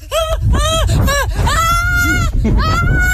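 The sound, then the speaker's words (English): A woman's voice makes loud, wavering bleat-like cries, several short quavering bursts in a row that sound very much like a goat bleating. “She kind of sounds like a goat there.”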